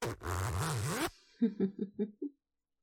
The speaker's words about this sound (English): Check this out. Small zipper so we can have sex without taking off our armor.